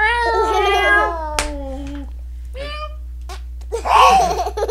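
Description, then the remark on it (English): A cat named Groucho meows in a long, drawn-out wavering cry, then gives a shorter second meow, followed by a brief noisy scuffle. The sounds are fairly loud. “I love it at the Groucho the cat.”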